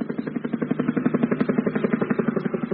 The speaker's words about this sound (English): I say, helicopters again. Wacko, I do love helicopters. Look, look, chaps. You can see the soldiers leaning out, peering through their binoculars.